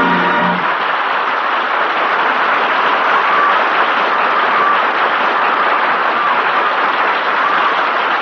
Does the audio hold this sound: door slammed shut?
no